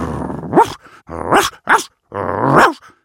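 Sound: dog yapping and barking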